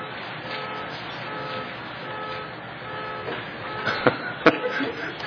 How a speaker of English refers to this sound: Did anybody recognize our horn? That was yours? Oh. You know, it happens so rarely, I wouldn't recognize my horn except when I push it to turn the thing, I mean to lock it.